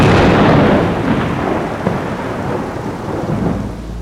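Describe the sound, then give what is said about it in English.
A loud crack of thunder from a lightning strike bursts out and rolls into a long, heavy rumble that slowly fades, with a hiss like rain underneath and no voices. “No one can hide away from the might of lightning!”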